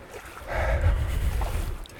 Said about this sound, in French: Je suis installé dans l'Aveyron, j'ai bien sûr mis mes longues bottes de pêcheur pour me rendre au sein de l'Aveyron et au milieu des remous.